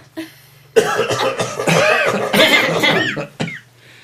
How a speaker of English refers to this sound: Right. I'll give a little cough as well.